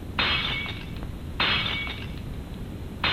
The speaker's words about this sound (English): Well, I guess I'll do what she asked me to do. Destroy these old dishes. I didn't like them anyway.